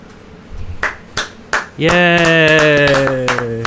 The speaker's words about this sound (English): Yay. Everybody's happy about this. A little applause.